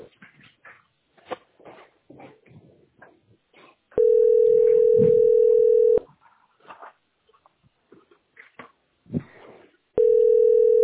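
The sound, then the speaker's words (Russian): A telephone line tone while on hold in a call queue at position 46 for a billing centre, at 10 a.m.: a loud, steady electronic beep lasting about two seconds, then repeating after a gap filled with faint rustling and soft whimper-like noises. “Нет, 46-я позиция, почему? Кто в 10 утра звонит туда, кроме меня?”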